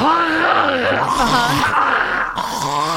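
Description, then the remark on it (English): A voice imitates an old man clearing his throat: a loud, gravelly growl and groan that wavers up and down in pitch for about three seconds, with no words. “I can hear him clearing his throat now.”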